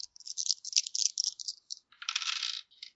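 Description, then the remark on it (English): Handfuls of plastic dice rattle and clatter in quick, dense bursts of small clicks, a steady spill at first, then a louder, thicker tumble near the end, with no voices. “I don't know, people are getting out of dice, so that's almost playing with a bunch of marbles.”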